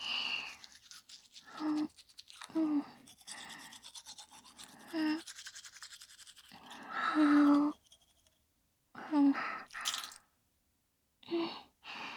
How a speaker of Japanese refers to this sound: 私も歯磨きしちゃうね。